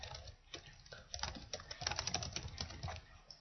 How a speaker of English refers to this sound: Why are you typing? It's coming up on the microphone.